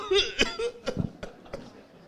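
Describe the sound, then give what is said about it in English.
A man's voice imitates coughing: a short vocal sound followed by a run of several sharp, hacking bursts at irregular intervals, moderately loud, with a chuckling quality. “He sees the Holy Spirit in him coughing.”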